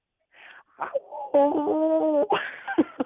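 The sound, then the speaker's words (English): A person's voice imitates a wolf howl: a short rising whoop, then a sustained, steady wavering tone lasting about a second, bracketed by brief yelping bursts, clear. “Do you know how to do the wolf howl?”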